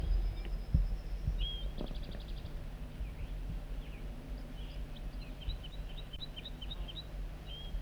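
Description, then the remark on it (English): A wild banded male bird sings a series of short, high chirping notes, repeated in quick bursts over a steady low background rumble, with no talking. “That's the wild male again.”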